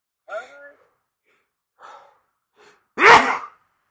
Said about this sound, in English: Oh my gosh, and I am sneezing like crazy right now.